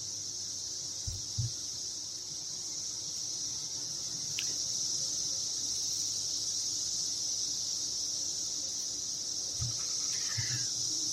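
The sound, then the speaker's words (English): A dense cicada chorus buzzes steadily throughout, a loud, unbroken high-pitched drone filling the air, with a few soft low thumps near the start and end. “But yeah, there are moments of, I wouldn't say perfect silence, but there are moments they would lull and get very, very quiet and then build back up to this chorus that we are hearing right now.”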